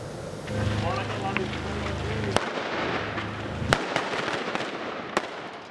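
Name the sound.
exchange of gunfire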